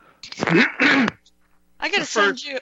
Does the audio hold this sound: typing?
no